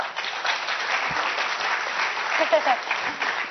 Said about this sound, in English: I know you can clap better than that, but anyway.